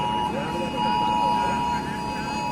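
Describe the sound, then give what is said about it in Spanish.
A steady, piercing electronic emergency alert tone blares continuously from the mobile phones of many attendees at once at a protest in the Plaza de la Virgen, Valencia, Spain. It is the flood alarm. The sound is fairly loud, with the murmur of a crowd underneath. “Han sido tanto en las zonas afectadas, en el Barranco del Pollo, como en la Plaza de la Virgen de Valencia, donde también han sonado desde los móviles de los asistentes el sonido de la alarma que llegó tarde el día de la riada.”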